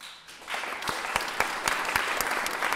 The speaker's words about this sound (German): Keiner hat sich vorher abgesprochen und doch wissen alle, was jetzt zu tun ist. Die Leute klatschen.